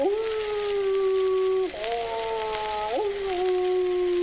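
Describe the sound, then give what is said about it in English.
Long, steady howling of animals rings out loud, a sustained tone that dips and slides in pitch twice before settling back into the same drawn-out wail, with no talking. “The animals began to howl.”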